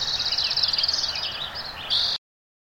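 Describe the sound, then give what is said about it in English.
A dense chorus of birdsong chirps and trills over a steady rushing wash of a nearby flowing creek, recorded in 2009 before the drought at Oak Ridge State Park in Sonoma County; the park soundscape stays fairly loud before cutting off abruptly. “Nearby creek. It went missing this year, along with birds.”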